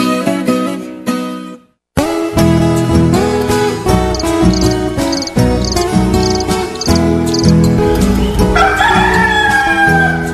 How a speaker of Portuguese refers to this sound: Quando o galo carijó solta o canto do bulê, pula em pé que já é hora de largar o travesseiro.